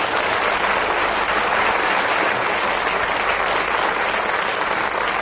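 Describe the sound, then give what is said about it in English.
Sustained studio audience applause on the panel game Just a Minute, welcoming panelists Paul Merton, Richard Murdoch, Peter Jones and Derek Nimmo; a dense, even wash of many hands clapping at steady loudness for about five seconds, with no voices cutting through. “Will you please welcome all four of them?”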